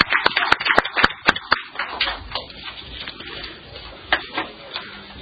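A short round of applause from a small group at a meeting, welcoming a new member: sharp, crisp claps in a quick run at first, then thinning out into scattered, softer claps before fading away. No one speaks.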